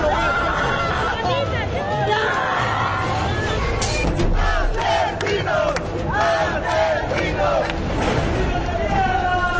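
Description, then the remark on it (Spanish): An angry crowd of relatives of the 81 inmates who died in the San Miguel prison fire shouts and yells at the Centro de Justicia after the accused prison guards were acquitted. A dense, continuous roar of overlapping voices, with sharp cries rising above the steady loud babble throughout. “Familiares de los 81 reos fallecidos en el incendio que afectó a la cárcel de San Miguel descargaron toda su ira luego de que los gendarmes imputados fueron absueltos de su responsabilidad en la tragedia.”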